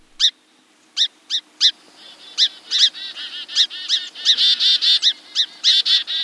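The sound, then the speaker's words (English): Sharp, high-pitched alarm calls from small birds retreating from a hawk attack, first a few spaced chips, then a rapid, overlapping flurry of urgent notes from several birds. No voices. “That scurry of alarm calls comes from small birds retreating from a hawk attack.”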